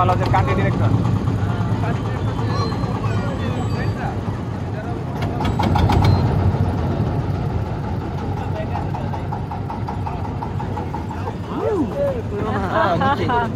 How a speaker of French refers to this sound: On s'est enlisé dans la vase, enfin le sable du fond est surélevé, mais on l'a pas vu et notre bateau s'est enlisé en fait. C'est un accident comme on ralentit là, c'est très doux, ça fait chut comme ça dans le sable.